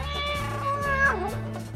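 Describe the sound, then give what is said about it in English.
A pet cat meows in one long, drawn-out cry whose pitch wavers and dips near the end, at moderate loudness with no talking. “Ben has a pet cat.”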